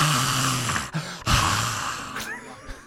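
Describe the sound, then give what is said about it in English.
A single voice imitates the crowd cheering during a solo, with a breathy, hissing roar over a low hum, broken by a brief gap into two sustained bursts. “No, that's my impression of the crowd during the solo.”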